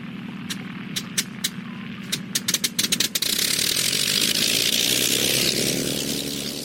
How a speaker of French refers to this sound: Un dernier essai, sait-on jamais. Le moteur ronronne correctement.